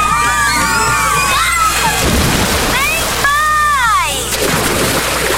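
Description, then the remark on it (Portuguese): Excited children's shrieks and happy shouts ring out over rushing, sloshing water, with a busy crowd murmur beneath: people playing and splashing at a water park. “Acabou de ouvir alguém criando memórias. Áureas Parque. Vem aí um mega parque aquático com piscina de ondas, praia artificial, toboáguas e muito mais.”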